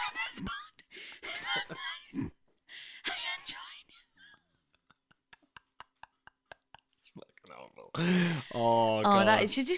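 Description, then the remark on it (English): A voice imitates raspy, wheezing heavy breathing in several breathy bursts, followed by a few soft clicks and then a strained, whimpering vocal sound. “How do I tell him it's not sexy if he's wheezing without looking like a twat?”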